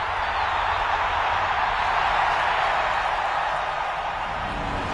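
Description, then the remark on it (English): A large crowd in a plaza on Chandrila applauds Chancellor Mon Mothma at a stone podium without pause, a dense, steady roar of clapping that holds at full strength throughout, with no voices standing out above it. “The applause roars, and Temin yells over it to the guard blocking his way into the plaza.”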